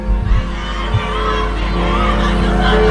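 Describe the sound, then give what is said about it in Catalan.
A large crowd greeting Pope Leo roars and shouts together, calling 'Papa León, te queremos un montón', in a dense, sustained wall of voices, with a few low thumps early on and the cheering swelling slightly louder toward the end. “M'agrada molt aquest crit que s'acaba d'escoltar.”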